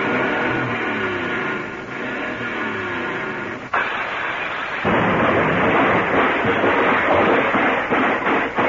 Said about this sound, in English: Let's give the motor a real good turnover. Let's hear it before you. Well, hold your microphone down there by the hood. You can get it real good if you want to. All right. Let me get this thing all revved up.